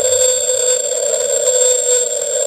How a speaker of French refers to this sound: Ça, ça a été enregistré en 89 et c'est une baleine bleue.